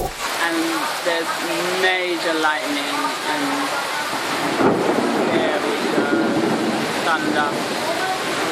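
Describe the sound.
A fierce storm in Nepal's Bara district, south of Kathmandu, roars steadily, heavy rain pounding down amid strong gusting wind, loud throughout, with voices speaking over the downpour during the first few seconds and again toward the end.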